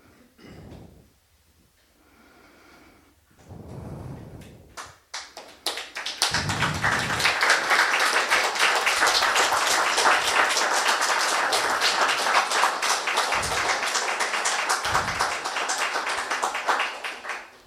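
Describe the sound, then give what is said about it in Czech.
An audience bursts into sustained applause after a lecture, a dense patter of many hands clapping that holds steady for about ten seconds, preceded by a few faint murmurs and thumps. “Tleskat po těch přednáškách nemusíte, protože já vím, že jste vděční za ně, protože jste přišli.”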